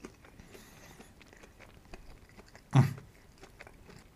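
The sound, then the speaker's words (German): A loud, sharp crunching bite near the end stands out after a stretch of quieter, scattered chewing clicks and rustles, with no one speaking, as the plain 'Nature' variety of a fried snack is tasted in Munich. “Und jetzt probieren wir mal die Nature-Variante.”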